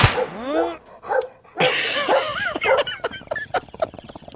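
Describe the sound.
A dog barks sharply a few times, with short yelping, whiny tones, followed by a busier stretch of overlapping noise that may include voices.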